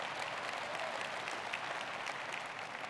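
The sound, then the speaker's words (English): An audience claps together in sustained, dense applause, many hands producing a steady, even wash of clapping with no voices standing out for the full three seconds. “I hope more of you believe like that, but that would be, let's just all clap.”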